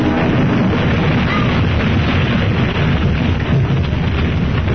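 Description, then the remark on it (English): A plane crash: a loud, sustained roar of rumbling, crackling noise that stays at full intensity for about five seconds, thick in the low end, with no voices. “Hold on, we're crashing.”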